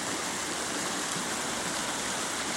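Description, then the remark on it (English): A river, fed by snowpack and summer monsoon rains and now flowing only a few months a year, rushes steadily over rocks, a dense, continuous wash of water sound that stays even throughout, with no voices or other noises. “This is a sound we're used to hearing year-round, but these days, this river only flows for a few months a year.”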